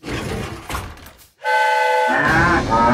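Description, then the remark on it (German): A loud, sustained train horn blast sounds as a train pulls into a small-town station, after a short burst of clattering noise, holding steady tones that swell and thicken with a second chord near the end. “Das Hupen erschreckte die Kühe so sehr, dass sie aus dem Waggon stürmten und in alle Richtungen davonrannten.”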